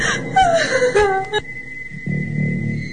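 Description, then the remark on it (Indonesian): A high, quavering wail rises and falls for about a second and a half, sounding like a woman crying out in pain, heard near the prayer room of a hospital on the way to the emergency ward, then breaks off into a steady electronic tone and low murmuring background. “Seperti tangisan wanita yang kesakitan.”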